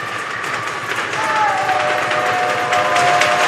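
A basketball crowd at Haverford cheers during free throws with 4 seconds to go, in a dense, steady roar that swells louder after the first second, while a thin sustained whistle-like tone cuts through the noise partway in.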